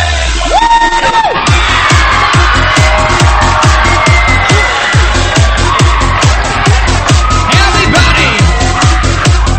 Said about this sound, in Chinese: 来点尖叫呐喊声好吗？